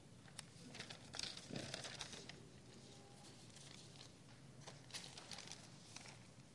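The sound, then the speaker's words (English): Small pieces of paper with scriptures written on them being shuffled and rustled, with scattered soft crinkles and papery taps coming in uneven bursts over a quiet background. “y'all should see these little pieces of paper I got.”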